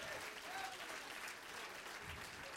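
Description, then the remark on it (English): A crowd claps their hands steadily in praise of God, a dense wash of many overlapping claps sustained at an even volume throughout, with faint voices mixed in beneath. “Oh, if you love him, clap your hands to him and bless his name.”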